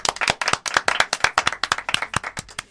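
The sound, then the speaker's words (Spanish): A crowd on the show Despierta UMH applauds with rapid, overlapping handclaps, a bright crackling burst that holds steady and fairly loud for a few seconds with no voices on top. “yo creo que esto se merece otro aplauso.”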